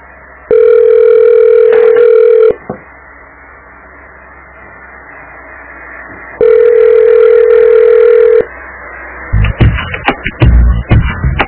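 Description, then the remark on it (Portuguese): Two long, steady telephone ringback tones, each about two seconds and several seconds apart, sound over a quiet line while waiting for an answer, followed by brief clattering handling noises. “É simples os caras atender um telefone, cara.”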